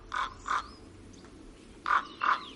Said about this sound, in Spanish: Bueno, estamos escuchando, nos ha puesto nuestro compañero Juanjo Ceballos, estos sonidos de la naturaleza, las aves, ¿no? Las aves.